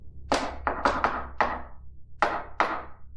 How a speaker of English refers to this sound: Oh, shit. Shaving a haircut. It is the ultra secret haircut and a shave that presages the opening of the door.